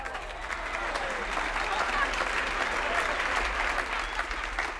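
An audience claps steadily for about five seconds, a dense, even wash of many hands with no breaks, holding a fairly loud level throughout.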